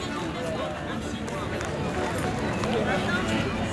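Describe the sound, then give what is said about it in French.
A crowd of people in a park, like a giant picnic with people playing games such as skittles, cards, frisbee and baseball, fills the scene with a steady, dense murmur of many overlapping voices, no single speaker standing out, holding at an even loudness throughout. “Un peu de musique et à présent un bain de foule.”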